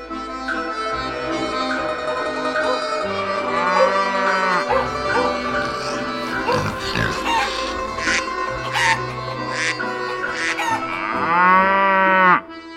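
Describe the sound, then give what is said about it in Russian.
A busy farmyard: a cow named Zorka moos in long, low calls several times while chickens cluck and squawk around it, fairly loud, with no talking. “У деда Захара с бабушкой Валентиной живность. Корова Зорька, поросенок Борька, утки и куры.”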